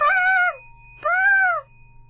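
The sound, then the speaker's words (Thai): A person imitates an elephant's trumpeting with two loud, rising-and-falling vocal blasts, each about half a second long, separated by a brief pause. “โดยเฉพาะอย่างยิ่งเรื่องของช้างช้างเสียงร้องเป็นยังไงครับเนี่ยอะไรนะครับเพื่อนๆบอกไม่ได้ยินขออีกที”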